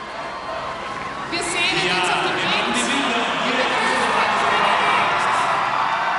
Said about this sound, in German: Von einer jubelnden Menschenmenge, die seit Stunden im Dauerregen ausharrte, ist Papst Benedikt in der Wiener Innenstadt begrüßt worden.